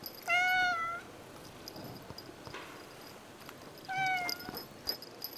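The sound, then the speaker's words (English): A cat, Duke, the resident cat of the Astor cinema, meows twice: a drawn-out harmonic cry followed a few seconds later by a shorter one. It is heard clearly against a quiet background with no talking. “No, it's the fairy tale of Duke, the Astor's resident cat.”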